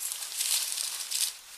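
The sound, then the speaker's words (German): Dry, crackling rustling of leaves and twigs in a bush, a steady hiss that swells twice into louder bursts before easing off. No voices. “Das Rascheln wurde etwas lauter.”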